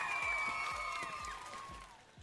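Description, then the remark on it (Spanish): A crowd of hundreds of attendees at a final applauding and cheering with a steady wash of clapping, long shrill whistles riding over it, and a deep drum thumping about twice a second underneath. No one speaks. “¿Por ahí no habrá algún aplauso, Emanuel?”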